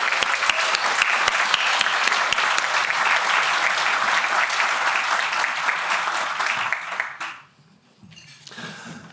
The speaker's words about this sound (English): And I think she deserves a personal round of applause.